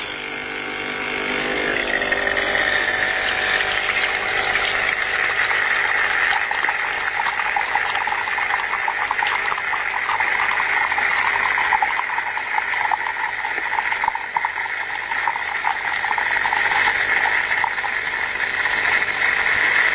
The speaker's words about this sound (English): I'm going to press the 2-cup button and let you listen to the coffee coming from the coffee maker, from the pod, into the glass that already contains the milk and the sugar tablet. So I'm going to press the button. Just have a listen. Here we go.